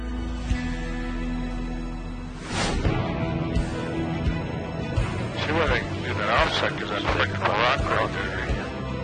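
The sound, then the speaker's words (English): A steady, droning propeller-engine hum fills the interior of a water bomber airplane flying across the Mediterranean to the island of Corsica, with muffled, crackly voices breaking in over the continuous engine noise. “After days of delay, the water bomber crew has flown across the Mediterranean to the island of Corsica.”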